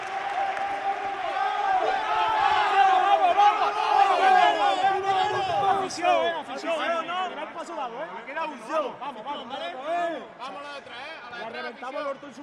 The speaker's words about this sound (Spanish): Esto era el grito de guerra del Cabra después de proclamarse campeón del primer partido de la serie.